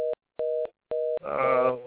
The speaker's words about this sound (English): Trying to dial somebody. That was somebody trying to dial somebody on the phone, I think.